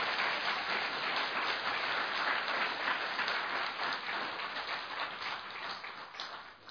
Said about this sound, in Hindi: अच्छी तरह से बजाओ ना तालियां थोड़ा।